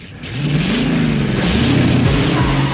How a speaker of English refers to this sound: She flings her arms backwards, throws her head back and stands on tiptoe as the two cars set off past her in a cloud of dust.